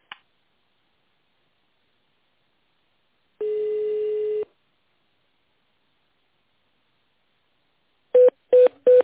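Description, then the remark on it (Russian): Telephone keypad tones dialing an internal extension on a company's automated phone line: after a faint click and one steady, second-long beep, three short, evenly spaced mid-pitched key tones sound in quick succession, with no voices. “Наберите внутренний номер абонента или дождитесь ответа секретаря.”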